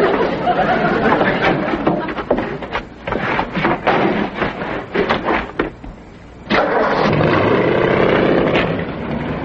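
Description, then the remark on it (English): A car engine cranks and turns over, with sputtering bursts and a brief pause, then settles into a steady, loud running rumble as the car is moved, with faint voices mixed in. “While I'm writing this ticket, move your car.”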